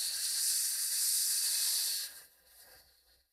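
A steady, forceful hissing exhale in a breathing exercise, breath squeezed from the pelvic floor and pushed out through pursed lips for about two seconds before it abruptly fades to quiet, alone with no talking.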